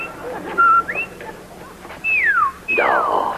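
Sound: a person whistling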